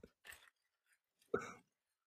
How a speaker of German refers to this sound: Oh, was hören wir hier? Plastik. Plastik, genau. Raschelndes Plastik.